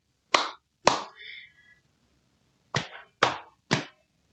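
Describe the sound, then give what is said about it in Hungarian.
Five sharp hand claps keeping the rhythm as an accompaniment to singing: two claps, a pause, then three more in quick, even succession. A brief ringing tone trails the second clap, with no voices. “Hogyha nem, az se baj, megfogod a kezeidet, tapsolsz hozzá.”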